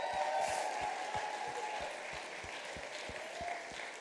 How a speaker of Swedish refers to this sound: Kan vi inte ge dem en stor applåd här?